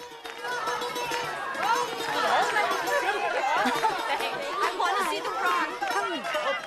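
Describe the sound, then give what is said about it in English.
Steady restaurant crowd chatter fills the room, many overlapping voices forming a busy, continuous babble at moderate loudness with no single speaker standing out. “Ian waves at Tula from across the restaurant.”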